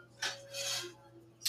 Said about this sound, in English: 3/4 cup of pepitas. They were raw, and I toasted them just till they started to puff up, get a little golden on them. And I'm going to drop these into my coffee grinder, and I'm going to grind them up.